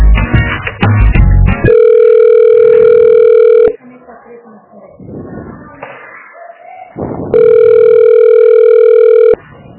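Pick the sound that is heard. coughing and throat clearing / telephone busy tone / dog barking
telephone busy tone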